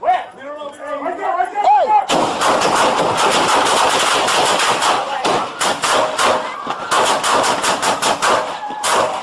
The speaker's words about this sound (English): Police body cam footage showed officers rushing towards the gunman, volley gunshots being exchanged.